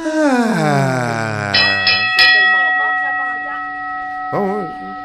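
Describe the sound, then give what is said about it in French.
A voice imitates the automatic sliding doors in The Hitchhiker's Guide to the Galaxy opening: a long groaning glide that falls in pitch, followed by a bright bell-like chime that rings on steadily, with a short vocal warble near the end. “C'est pour ça qu'à toutes les fois qu'ils passent au travers d'une porte qui ouvre automatique, on entend la porte faire...”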